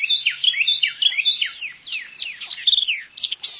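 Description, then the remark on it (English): Carolina wren and white-eyed vireo songs ring out together in the morning in a cypress swamp as the birds declare their territories, bright rapid whistled phrases repeating and overlapping continuously, with no voices. “By this time, other birds have awakened, and Carolina wrens and white-eyed vireos are declaring their territories.”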